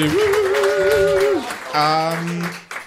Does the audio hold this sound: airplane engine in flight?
no